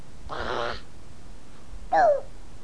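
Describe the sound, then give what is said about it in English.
A small child's voice imitates a dog: first a breathy, rough burst, then after a pause a short, higher yelp that slides downward, fairly loud. “How about the doggy?”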